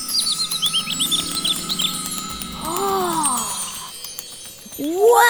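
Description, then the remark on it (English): Birds chirp in a quick run of high, bright tweets during the first couple of seconds, set against a soft tonal background with a few swooping whistles later on. “But look at the birds.”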